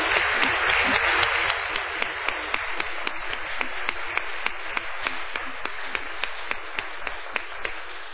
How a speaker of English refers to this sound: Okay. Well, first I want to have a round of applause for all our speakers. Thanks.